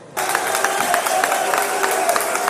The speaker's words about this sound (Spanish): Pues eso, aplaudido por sus propios compañeros en Alcaldía.